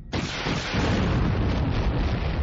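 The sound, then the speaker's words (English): A loud explosion bursts in sharply, then rolls on as a dense, rumbling roar that stays heavy and steady without fading. No voices are heard. “Once the afterwash of the explosion had passed, Jade Shadow slowed and leveled out.”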